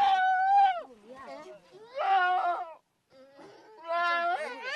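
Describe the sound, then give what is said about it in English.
A goat in Mongolia bleats in distress while lying stretched out on its side in a yurt, horns tethered to the ground, as a herder rakes tufts of white cashmere from it with a gardening-type tool: three loud, wavering, drawn-out cries separated by brief pauses with softer whimpering sounds between them. “One lies stretched out on its side in Bad Erdenbottom's ghare, or yurt. The animal's horns are tethered to the ground.”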